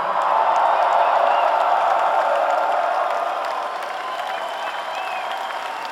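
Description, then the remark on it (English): A loud crowd applauds and cheers in a dense, steady roar of clapping with a few whistles and shouts, easing slightly in volume after about three seconds. “I think we never had this loud of a crowd anywhere.”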